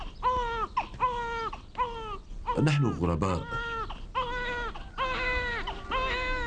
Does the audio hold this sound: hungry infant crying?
yes